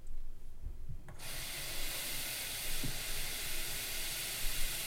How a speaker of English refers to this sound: So, now that we have the 8 tea bags in the quart-size pitcher, this is a different pitcher than the one I put the sugar in, obviously. I'm going to put the top on it, and I'm going to fill it up with water to the brim.